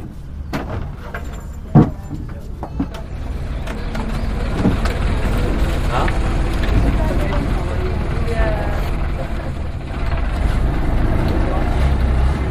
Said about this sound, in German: Das Boot braust über den großen Fluss und biegt schon bald in einen schmalen Kanal ein.